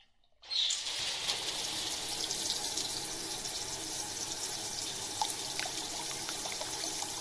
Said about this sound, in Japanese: こちらにおかけください。シャワーを使わせていただきます。